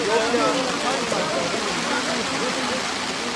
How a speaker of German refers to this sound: Sintflutartig könnte man diesen Regenfall bezeichnen. Der kam auch aus dem Nichts, ohne Vorwarnung.